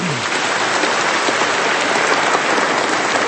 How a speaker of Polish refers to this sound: Dziś senator Jan Maria Jackowski. Bardzo się cieszymy i gratulujemy. Jeszcze raz gromkimi oklaskami przypieczętujmy te gratulacje.